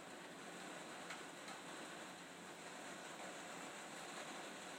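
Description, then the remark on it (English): Steady rain drums on a little porch roof over a back door, a dense, even hiss with a few sharper taps now and then. It runs unbroken throughout, with no voices. “Who says it's only the UK that has rain? It sounds worse because there's a little porch over the back door.”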